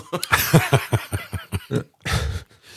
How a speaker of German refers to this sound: Ich meine, der Rülpser. Ein kurzer Rülpser auch. Ich habe jetzt so, wie er den Mund wieder zugemacht hat. Er war laut und kurz.